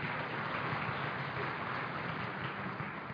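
An audience applauds a choir, a dense wash of many hands clapping at once, sustained and fairly loud throughout with no voices standing out.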